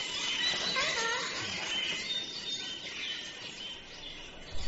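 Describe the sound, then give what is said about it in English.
A dense, steady chatter of many small caged pet birds, kept by the gentry as playthings, many high chirps and thin whistles overlapping continuously, with no voices and no break in the twittering. “Nay, sir, just more of these birds the gentry all want now for playthings.”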